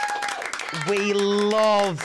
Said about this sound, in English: Guys, thank you for the audience applause.